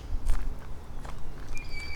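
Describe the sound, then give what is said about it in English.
A few slow, irregular footsteps crunch through the woods over a low rumble, followed by a thin, high whistling tone near the end. “Instead, I'm going to move forward a few more steps.”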